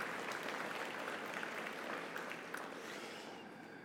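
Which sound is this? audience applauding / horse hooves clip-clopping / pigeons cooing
audience applauding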